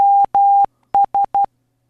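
Morse code beeps at a single steady pitch: two long tones followed by three quick short ones, clear with no voices, part of an SOS international distress signal.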